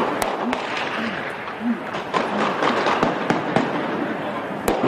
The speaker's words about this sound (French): Des tirs nourris pendant de longues secondes. Des grenades assourdissantes sont lancées.